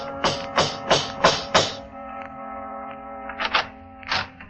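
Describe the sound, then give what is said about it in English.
Five firm, evenly spaced knocks on the door of a big private estate called Haywill Manor, near the town of Norrisburg, during a party, a short pause, then a quicker pair and one final knock, all over a steady low tonal hum in the background. “The man who answered the door was the one person I never wanted to see again.”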